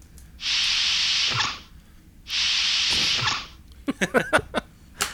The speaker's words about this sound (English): So that's a swoosh. That's a swooshy swish? That's a swoosh of a door opening and closing.